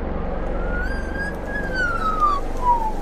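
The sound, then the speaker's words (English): An Australian magpie mimics a fire siren: one long, clear whistled tone slowly rises, then glides downward over about two seconds, heard over a steady, loud background rumble. “hearing isn't a fire siren. It's a real recording of an Australian magpie's chirp.”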